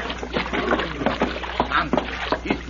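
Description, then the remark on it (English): Water sloshes and splashes in a series of irregular bursts as a man climbs out of a barrel full of water, with faint drips and movement between the splashes. “doesn't know the barrel full of water. It's safe to come out.”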